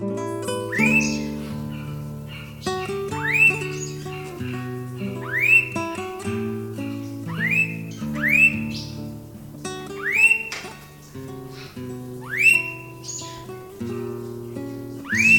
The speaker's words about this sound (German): Das war der Blauohr-Honigfresser.